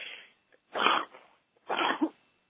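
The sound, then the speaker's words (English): A sneeze bursts out, coming as a couple of sharp, breathy explosions about a second apart, with no talking around it. “Excuse me, I sneezed.”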